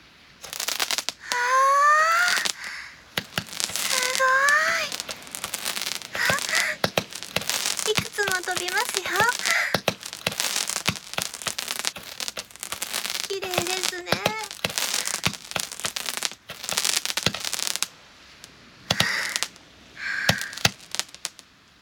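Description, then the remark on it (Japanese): Aerial fireworks, just lit, fire off with several rising whistles as they launch and a dense, continuous crackling and popping that keeps going for most of the stretch before thinning out. “打ち上げ花火、きらびやかでいいですね。”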